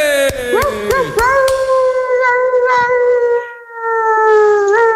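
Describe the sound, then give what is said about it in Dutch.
A human voice imitates a long, wavering dog howl, sustained for several seconds with sliding pitch and a few sharp catches at the start, loud with no other talk. “Wat moest dat voorstellen voor hond die op ergens op de snelweg uit het raam hing of zo?”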